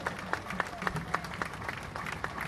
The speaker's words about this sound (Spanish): Y les pido un aplauso para las centrales por el gesto de unidad que tuvieron con todo para todos nosotros.